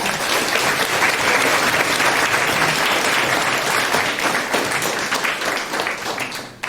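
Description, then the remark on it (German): An audience applauds steadily, many hands clapping in a dense, continuous wash that holds loud for several seconds and tapers slightly at the end. No one speaks. The applause is for Political Block, a group's project for recognising and flagging fake news on the internet. “Von daher einen ganz tollen Applaus für Political Block.”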